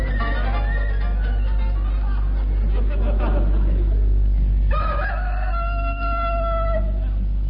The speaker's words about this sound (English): We included that recording of a cockerel for people who like that sort of thing.